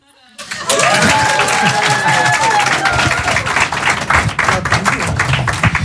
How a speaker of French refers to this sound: et après vous applaudissez tous ensemble.